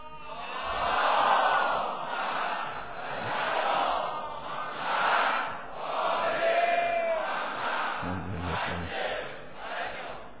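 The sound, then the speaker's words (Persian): A large crowd chants a salawat together in unison, a loud sustained murmur of many voices swelling and falling in several waves over about ten seconds. “حالا اگه میخواد از ولایت خاصه هم براتون بگم، یه صلوات بفرست.”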